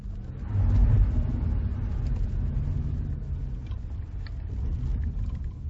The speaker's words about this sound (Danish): Louisiana. Vi kører i fugtigt lun gråvejr ned mod New Orleans. Vejen er bygget på pæle i sumpen.